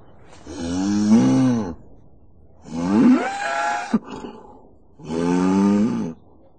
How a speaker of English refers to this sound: It's a cow. Moo, moo, moo. Yes, it's Camilla the farmer's cow.